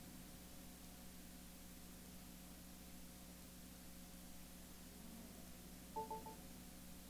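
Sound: telephone keypad dialing tones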